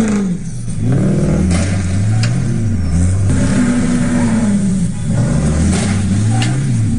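A heavy red tow truck engine revs hard and accelerates as it rams a red truck at a crash scene, its pitch rising and falling, with a few sharp clattering knocks cutting through the loud roar. No one speaks.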